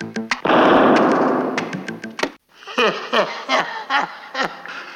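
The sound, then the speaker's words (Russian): A few sharp pops give way to a loud, roaring explosion that rumbles for about two seconds: Coca-Cola cans stuffed with salt, pepper, ketchup and chewing gum, hung on a door, wrapped with threads and set alight. After a brief silence, a voice follows with bouncy, laughing sounds. “Он собрал их вместе, запихал в банки, банки повесил на дверь, обмотал нитками и поджег.”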